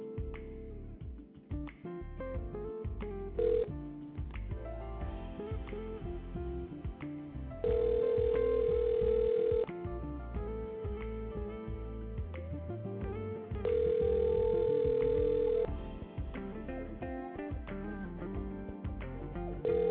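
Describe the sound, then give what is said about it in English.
A telephone rings with two loud, steady, mid-pitched ring bursts of about two seconds each, a few seconds apart, over a continuous tinny melodic tone. Nobody speaks. “Call my motherfucking phone.”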